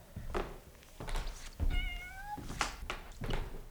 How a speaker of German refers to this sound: Hey, da ist ja eine der Katzen. Na, du Kleine.